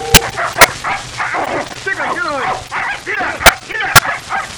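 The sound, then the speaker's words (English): Dogs aboard a showboat bark in sharp, loud bursts scattered across a few seconds, with higher yipping and whining calls in between over a busy background of noise and voices. “How'd those dogs get on board?”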